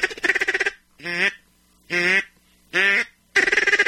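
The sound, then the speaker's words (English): Loud duck call quacking in a duck hunting blind, used to bring in ducks, with no other sounds: a rapid chattering burst, three drawn-out nasal quacks spaced about a second apart, then another fast run of quacks. “I'm going to get you a ticket for electronic call.”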